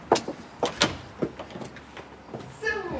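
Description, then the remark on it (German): The dark green front door of a restored villa opens as visitors enter, with a series of sharp clicks and knocks, followed by a creaking, scraping swing near the end, with soft murmuring voices in the background. “Dunkelgrüne Fenster, eine dunkelgrüne Tür und ich vermute, hier geht's auch gleich rein.”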